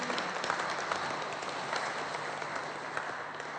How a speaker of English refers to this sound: Well, let's give a clap offering unto Jesus. Lasst uns Jesus einfach mal mit einem Klatschopfer ehren.